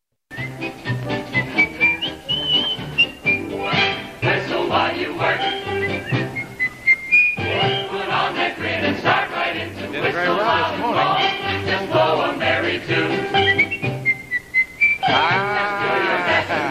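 A cheerful whistled melody rides over a bouncy band accompaniment, the bright tune weaving in and out alongside sung vocals in an old-fashioned pop recording.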